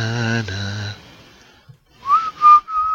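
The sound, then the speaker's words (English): A person whistles a short melodic phrase from a film score: a rising slide into a few clear, sustained notes. It follows a brief hummed or sung tone and a moment of near silence. “Why am I whistling?”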